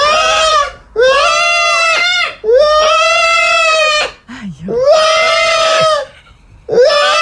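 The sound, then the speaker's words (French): A parrot and a man scream together in loud, shrill, drawn-out bursts, about five in a row with short pauses between, piercing; the man is filming himself with his parrot. “Écoute bien, c'est juste, il crie, puis le perroquet crie en même temps que lui, oh, puis il se filme, mais ça donne quelque chose qui est vraiment cave.”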